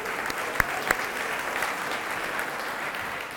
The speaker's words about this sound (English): If you're happy, clap your hands right now.